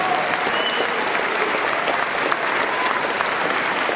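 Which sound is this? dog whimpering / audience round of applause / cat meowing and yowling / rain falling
audience round of applause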